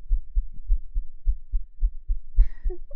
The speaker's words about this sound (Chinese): 心跳就会变急促，好像科学上是这样子的吧？